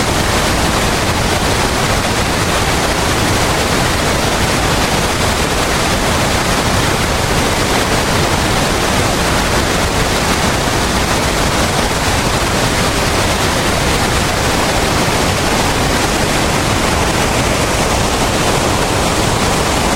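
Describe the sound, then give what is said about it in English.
A waterfall in Patterson State Park, Wisconsin, roars with a steady, dense rush of water, loud and unbroken across the full range from deep rumble to bright hiss, with no voices. “I'll just let the waterfall take on from here.”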